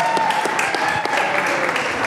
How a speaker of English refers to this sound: Big round of applause for Earl Brown, everybody. Come on.